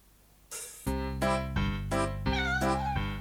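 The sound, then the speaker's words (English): A cat meows several times in quick succession, loud, each call a drawn-out tonal cry running into the next, with no one talking. “I had a cat and the cat pleased me.”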